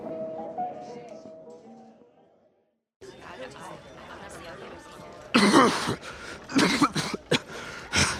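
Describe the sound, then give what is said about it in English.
A man lets out a series of loud, harsh coughs in uneven bursts and clears his throat, following a stretch of murmured voices and a brief pause. “Ain't nothing that can cure me of this dang blasted cough.”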